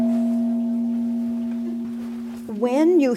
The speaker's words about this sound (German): Wenn du einen Gong schlägst, ist das brutal. Aber der Klang kann sehr schön sein. Dieses Geschehen war brutal, aber der Klang der Harmonie war sehr schön. Ein Gong und ein tägliches Gebet.